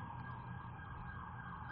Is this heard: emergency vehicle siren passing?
yes